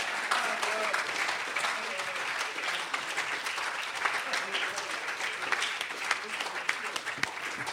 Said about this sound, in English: Would the tellers please stand, the ones who told today? Please give them another nice round of applause.